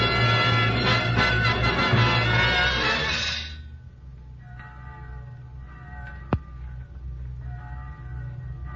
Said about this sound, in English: Church bell? Oh, yes, yes, of course. Church bells are on God's side.